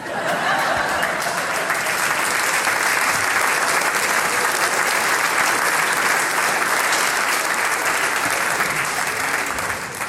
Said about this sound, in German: Jetzt haben nur die Männer klatscht, gell?